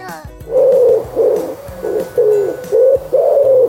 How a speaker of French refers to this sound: Est-ce que tu as reconnu ce son ? C'est celui d'un oiseau, oui, mais lequel ? Un perroquet ? Un aigle ? Un moineau ? Pas du tout, voyons, c'est un pigeon. Et ce n'est pas n'importe quel pigeon, c'est un pigeon espion.